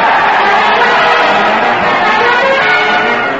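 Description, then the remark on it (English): A dense, steady roar of a crowd cheering at a parade at the old Town Hall, many voices blending into a loud, continuous wash of noise that holds at an even level throughout without clear pauses. “Listen to that crowd. They're jumping up and down and cheering”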